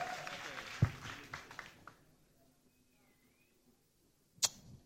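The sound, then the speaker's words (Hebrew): A concert audience applauds after a song performance, a dense wash of clapping that dies away within about two seconds, leaving near silence broken only by a single sharp knock toward the end. “חבר'ה, הרבה זמן פה לא נתנו מחיאות כפיים.”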